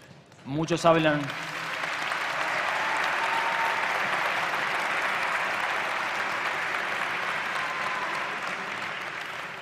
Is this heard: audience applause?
yes